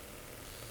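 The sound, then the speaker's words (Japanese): A clitoral suction vibrator hums with a steady, low motorized buzz, fairly quiet and unbroken for the whole brief moment, with no voices present. “クリキュインバイブを取りました。”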